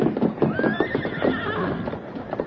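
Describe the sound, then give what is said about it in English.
A horse whinnies with a high, wavering neigh over a steady clatter of hooves clip-clopping, the hoofbeats continuing in a loose rhythm throughout. “Get to your horse and start down the trail.”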